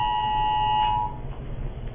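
A loud Amber Alert emergency tone blares from a phone for an incident in Pasco, a harsh steady two-pitch electronic screech lasting about a second before cutting off, leaving low background rumble.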